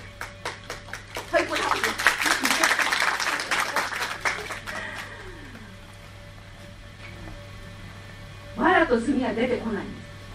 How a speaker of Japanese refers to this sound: はい、正直に合わせて拍手をお願いいたします。で、幕が開きましたらあの拍手ですね。で、幕が閉まりましたら、終わりの拍手、お話の始まりと終わりの決まりでございますので、よろしくお願いいたします。